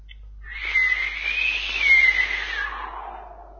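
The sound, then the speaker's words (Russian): A voice imitates whistling wind, dubbed over the howling wind as an extra effect and meant as a far-off whistle: one breathy, hissing whistle that wavers up and down in pitch for about three seconds, holding fairly steady in loudness, with no talking. “Это вообще ветер воет сам по себе так, но я сейчас озвучил дополнительно, как будто бы такой вот шум... Свист.”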